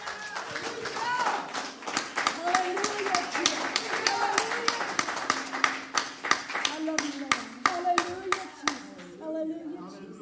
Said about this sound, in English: Okay, everybody give the Lord a hand clap of praise.